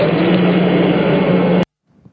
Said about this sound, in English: Ignition sequence starts. 6, 5, 4, 3, 2, 1. 0, all engine running. Liftoff, we have a liftoff. 32 minutes past the hour. Liftoff on Apollo 11.